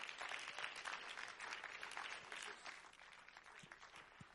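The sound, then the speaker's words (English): An audience claps their hands to give God thanks and praise, steady, sustained applause, a dense crowd of overlapping claps that stays loud and even throughout, with no voices rising above it. “Would you clap your hands one more time and just give him thanks and praise?”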